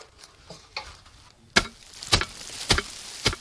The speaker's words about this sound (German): Gerade steigt ein Reetdachdecker auf einer Leiter nach oben und entfernt mit einem Klopfbrett das Moos. So hält das Dach länger.